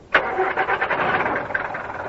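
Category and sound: vehicle, taxi engine starting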